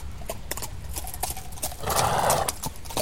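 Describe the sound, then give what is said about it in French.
A horse's hooves clip-clop in a steady rhythm as it arrives back from a ride, and midway a loud, drawn-out neigh rises over the hoofbeats before the clopping carries on. “Voilà déjà son cheval.”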